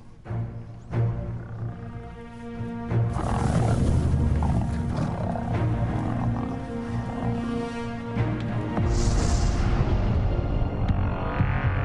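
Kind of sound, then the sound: animal, lions roaring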